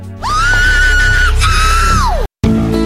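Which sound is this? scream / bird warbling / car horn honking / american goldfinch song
scream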